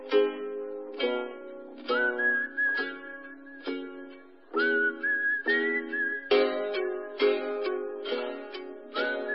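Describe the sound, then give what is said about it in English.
A thin, sustained whistled melody glides above a steady, rhythmic instrumental backing with evenly spaced chord hits, fairly loud, with no talking. “Whistle, Whistle and Cowboy Tunes”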